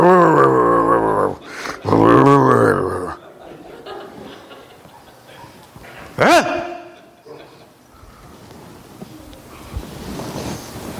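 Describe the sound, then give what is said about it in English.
A voice imitates a dog, with two drawn-out whining, barking howls and then a short sharp yelp a few seconds later, followed by quiet room noise. “Do some good if all of us would kind of practice barking sometimes.”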